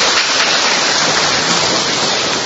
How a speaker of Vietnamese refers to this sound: Bà lên đây rồi chúng ta chào mừng người chị em này, một tràng pháo tay thưa anh chị em.